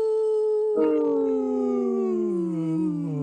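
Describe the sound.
A person imitates a wolf howl: one sustained, loud tonal cry that holds a steady pitch, then swells with a breathy break and slowly glides downward for about three seconds.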